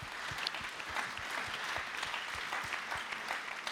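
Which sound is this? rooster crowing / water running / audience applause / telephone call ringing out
audience applause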